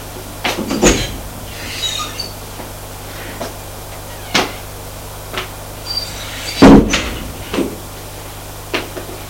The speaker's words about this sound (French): Il ferma la porte derrière lui.